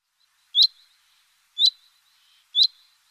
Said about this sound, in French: Et c'est un oiseau qu'on entend beaucoup chanter ici au printemps. On l'entend que lui, quasi dans les jardins.